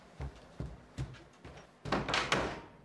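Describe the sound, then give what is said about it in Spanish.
Four evenly spaced footsteps thud across the floor as a person gets up and walks to the door, then a louder, scraping burst as the door swings and shuts, with no voices. “Adriana se levanta y camina hacia la puerta.”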